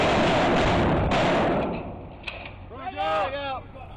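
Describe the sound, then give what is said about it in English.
Heavy gunfire in Iraq during Operation Phantom Fury, recorded by combat historian Patrick O'Donnell while embedded with U.S. Marines, erupts in a loud, roaring barrage, then fades, leaving a single sharp crack followed by a man's shouting voice. “Combat historian Patrick O'Donnell recorded this sound of the battle when he was embedded with the Marines”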